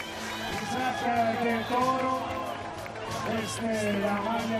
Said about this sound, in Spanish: Y ahí está saliendo, esta es la ovación para él.